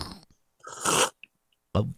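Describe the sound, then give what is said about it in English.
A noisy slurping sip of hot coffee, followed by a short pause with a couple of tiny clicks and then another brief slurp. No one speaks. “First off, let me just take a sip of my wonderful cup of coffee.”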